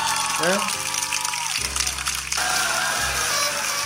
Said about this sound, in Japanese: あもう皆さんありがとうございますね。本当盛大な拍手をね、 はい、 ラッパ付きでみたいなね。